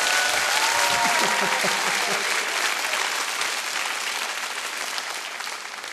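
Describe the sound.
A crowd applauds steadily with dense, loud clapping across the whole clip, faint cheering voices mixed in early on before the applause slowly tapers.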